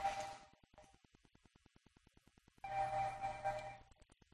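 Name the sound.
phone ringing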